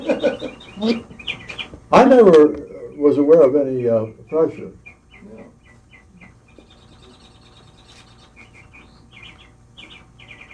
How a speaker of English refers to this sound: I think there is a bird in your chimney.